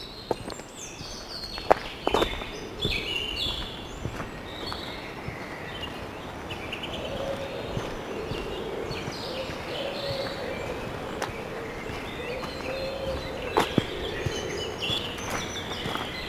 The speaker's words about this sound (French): épicéas, sapins pectinés, et cette couverture végétale est orchestrée par le chant des oiseaux.